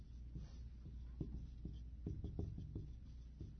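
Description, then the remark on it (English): A marker squeaks and scrapes across a board in short, irregular strokes, moderately loud, with no voices over it. “Get a better marker. That's number one.”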